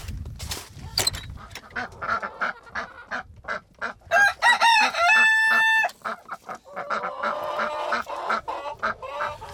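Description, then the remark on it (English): A flock of chickens clucks in quick, choppy bursts as they are fed leftover scraps, with a rooster letting out a drawn-out crow partway through before the clucking resumes. “So we'll go out and feed the chickens.”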